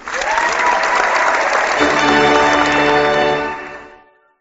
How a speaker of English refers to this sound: Hit that applause.